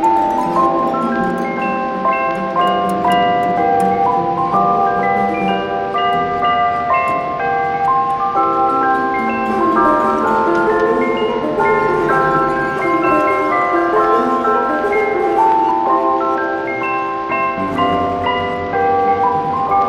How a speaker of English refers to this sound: It's a bit of a tune that I'll play on my chimes that I've got with me here. So listen, dear children, to some real Christmas cheer.